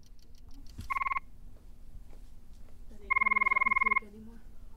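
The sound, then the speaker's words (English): Two recorded male frog mating calls played back in an empty arena, a short one followed by a longer one near the population average, each a rapid, evenly pulsed ringing buzz, over a faint low hum and soft background murmur. “the lady frogs are no longer in their mating season. Is it possible for us to hear what those calls would sound like in here?”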